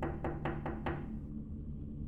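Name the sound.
knocking on a door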